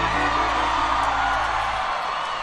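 A large concert crowd at the Lollapalooza festival roars and cheers at nighttime in a steady, loud wash of noise, with scattered whoops and shouts rising out of it for a couple of seconds.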